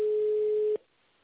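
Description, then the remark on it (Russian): A telephone ringback tone as a call is transferred to an operator: one steady, mid-pitched beep that holds for under a second, then cuts off into faint line hiss. No one speaks. “Вызов направлен оператору.”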